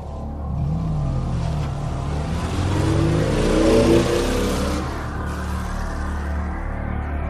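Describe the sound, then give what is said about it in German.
A car engine turns over and catches, then revs and pulls away, the rising engine note swelling to a peak before easing off as the car drives off. “Er konnte Sigourney beobachten, als sie das Haus verließ und in ihren Wagen stieg.”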